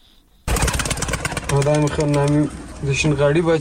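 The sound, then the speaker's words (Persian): Pigeons coo in two low, throaty phrases, each lasting about a second, in Kafroshi Alley, the bird-selling quarter of Kabul, Afghanistan, over a busy, rattling background of clatter and noise that starts abruptly and stays loud throughout. “از یک کفترباز کابل میشنویم و سری میزنیم به کوچه کافروشی، محله مخصوص فروش پرنده ها در پایتخت افغانستان.”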